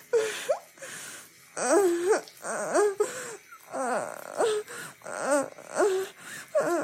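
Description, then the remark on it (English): A person whimpers and whines like a puppy, a series of about eight short, pitch-bending vocal whines with brief pauses between them, fairly clear, with no words spoken. “I feel like I'm groaning and whimpering like a puppy.”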